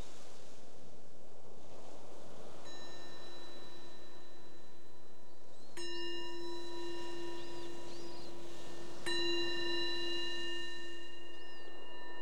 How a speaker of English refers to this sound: So the bell invites us to bring the awareness back to the surface again, and just noticing how it is right now, in the mind and the body.